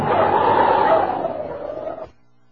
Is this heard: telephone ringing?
no